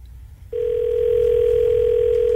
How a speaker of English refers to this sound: So right now, we're going to make a phone call and head up to Meadow Lake and see if we can make somebody, well, happy.